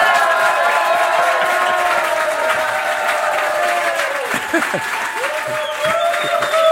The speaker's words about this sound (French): on va pas te laisser partir pour ton dernier Open Jazz à Coutances sans un tonnerre d'applaudissements.